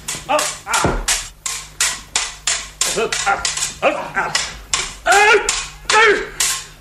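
A dog barks loudly and close by in a rapid, steady run of about fifteen sharp barks, some rising into strained yelps, over a faint low hum.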